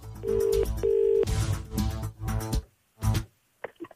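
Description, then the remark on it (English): A telephone ringback tone purrs twice in quick succession, a steady mid-pitched double ring on an outgoing call to a prize draw winner, followed by a few muffled bursts of noise and then quiet. “It's ringing.”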